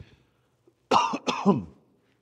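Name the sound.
coughing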